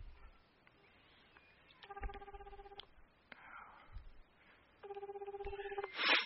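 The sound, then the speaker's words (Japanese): A man phoning his mother: two stretches of steady, pulsing telephone ringback tone, each lasting about a second, separated by a quiet pause, ending with a brief click as the call connects; low background hiss throughout. “今日も早速うちの親に、ね、電話して聞いていこうかなと思います。”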